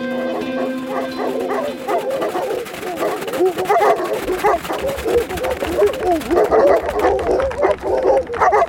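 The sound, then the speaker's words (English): Several wolves, leading the way to a cabin, whimper and yip in quick, overlapping bursts, high excited cries repeating nearly nonstop, with a low rumble running underneath. “They're leading us to the cabin, aren't they? Hmm? And you thought you didn't talk wolf.”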